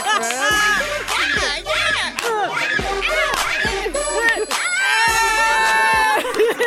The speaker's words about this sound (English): Shouting pain and shock.